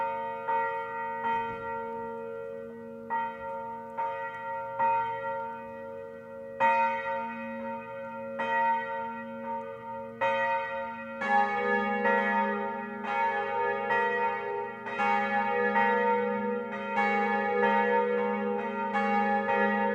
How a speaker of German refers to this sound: in der Verbannung auf St. Helena kein Angelusläuten mehr hören zu können